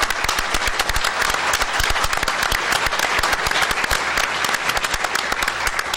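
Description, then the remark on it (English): A crowd claps steadily for several seconds to thank Senator Tim Kennedy, Assemblyperson Crystal Peoples-Stokes, Assemblyman John Cerretto and Assemblyman Sean Ryan, a dense, loud patter of many hands with sharp individual claps popping out, holding an even level throughout with no voices on top. “And they were very helpful to me personally, and I would like to thank them and give them a round of applause.”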